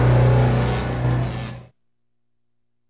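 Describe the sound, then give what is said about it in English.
A new car's engine revs loudly with a steady low hum as it arrives, then cuts off abruptly after about a second and a half, leaving silence. “And today, you're showing up in your new car”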